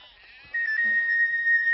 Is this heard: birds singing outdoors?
no